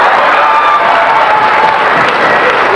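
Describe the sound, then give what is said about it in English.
A loud, steady burst of audience applause mixed with cheering and a few whoops, a dense wash of clapping that holds at full strength for about three seconds with no speech over it. “Oh God, they could drop the price. Clap.”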